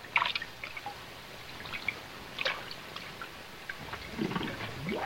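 Asta the dog paws at water for a rock, making scattered light splashes and drips in a few uneven bursts, soft, with no voices.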